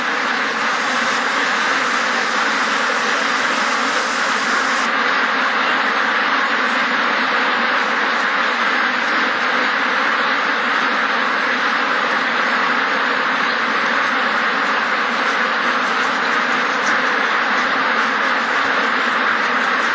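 A dense, constant din of many farmed ducks quacking together in an intensive farm shed, loud and unbroken for the whole stretch, with no talking.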